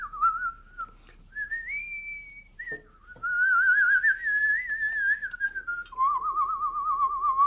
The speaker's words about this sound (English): in Poland, it is bad luck to whistle inside house.